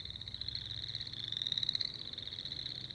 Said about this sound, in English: They're found in grassy wetlands and typically will call from clumps of grass on the edges of the wetland. Chorus frogs are some of the first ones that we hear in the spring as soon as it starts getting warm and sunny and the ponds start melting.